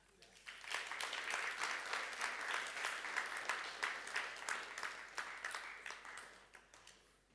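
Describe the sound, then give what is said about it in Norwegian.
A crowd applauds steadily for several seconds, a dense patter of many hands clapping that swells quickly, holds at a fairly loud level, then begins to thin out toward the end. “Jag lovsångar en applaus.”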